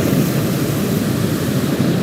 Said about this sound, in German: Man hört's. Natürlich wird der Ballon immer wieder weiter aufgeblasen. Hier über den Steinbruch in Erwitte.